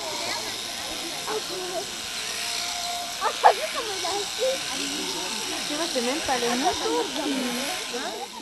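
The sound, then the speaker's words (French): Electric clippers buzz steadily as a sheep is shorn, a continuous hissing drone running throughout while people talk over it. “C'est la première fois que vous voyez un mouton se faire tondre?”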